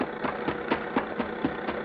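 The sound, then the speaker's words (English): A car engine runs steadily, its idle marked by regular, evenly spaced chugging pulses about four times a second, moderately loud with no voices over it. “Hey there! Stop that car, huh?”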